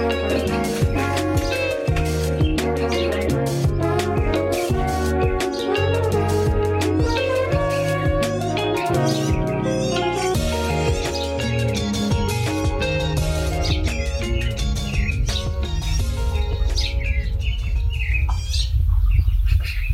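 Birds chirp and call continuously in a dense outdoor chorus in a local park over a steady low rumble, many overlapping tweets at a fairly loud, even level, with no one talking.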